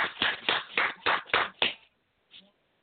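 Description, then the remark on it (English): Seven sharp, even claps in a steady rhythm, fairly loud, followed by a pause and one softer clap at the end. No one speaks over them. “But then who that clapping? Don't tell me that's you clapping.”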